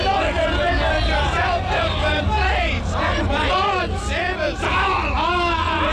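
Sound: crowd yelling and screaming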